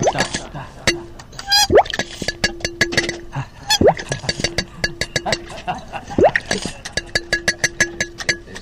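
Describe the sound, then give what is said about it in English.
A horn is dipped into water again and again, with repeated wet plops, gurgles and rising bubbly sweeps, plus small clinks, all fairly loud with no voices. “Dipping his horn into water.”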